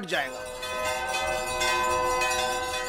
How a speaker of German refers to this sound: Der ohrenbetäubende Rhythmus der Glocken erreicht seinen Höhepunkt.